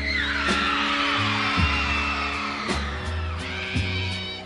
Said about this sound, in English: That audience is just screaming their lungs out because this guy knows how to deliver a show.